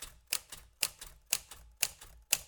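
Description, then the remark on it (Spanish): Mechanical typewriter keys strike in a steady, evenly spaced rhythm, about five or six sharp clacks in a couple of seconds, clear with no voices. “Hace alusión a esa arquitectura del teclado, etcétera, ¿no?”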